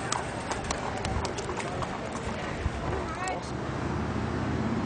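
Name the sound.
horse hooves clip-clopping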